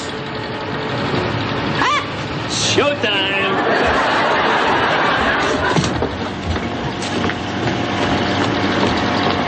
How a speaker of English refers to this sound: What's the matter? Garbage truck.